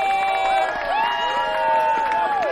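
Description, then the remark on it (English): A crowd at a final cheers and applauds loudly and steadily for a couple of seconds for the first finalist, with many overlapping high whoops and shouting voices rising and falling over the noise. “Let's give a big, warm round of applause to our first finalist, Gluski!”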